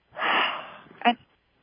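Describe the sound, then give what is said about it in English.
A long, breathy exhale, loud at first and slowly fading over almost a second, followed by a brief soft vocal sound at the end; a person exhaling during a breathing exercise after saying "I'm afraid" out loud. “So breathe in, say, "I'm afraid," out loud. You have to say it out loud. Okay, "I'm afraid." And exhale.”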